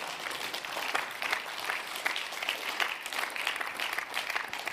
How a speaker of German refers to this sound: Wow! So ein guter Gott, ja, dem können wir schon mal einen Applaus geben.